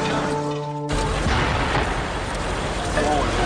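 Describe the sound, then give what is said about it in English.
A steady humming tone gives way to a sudden explosion at a building, followed by a loud, lingering rumble and roar of noise that fills the rest of the outdoor scene as the building blows up in full flame with debris coming down. “Hearing an explosion over their shoulder, looking back at the building, and then looking straight into the CNN camera and saying this.”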